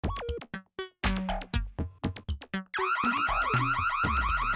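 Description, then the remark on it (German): A loud electronic siren wails, starting with choppy bursts of shifting tones, then settling into a continuous, rapidly warbling rise-and-fall pattern. No voices are heard. “Mika schlug mit der Faust auf einen roten Knopf und die Sirene verstummte.”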